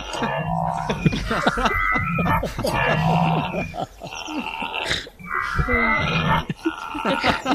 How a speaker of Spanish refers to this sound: En el parlamentarismo español se usa más la que es una vocal indefinida que recuerda al mugido de un ñu.